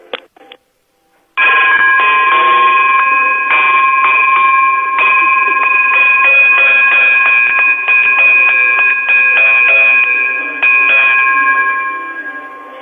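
After a couple of brief clicks, a loud electric bell starts ringing and keeps clanging nonstop for over ten seconds with a rapid metallic rattle, with no one speaking.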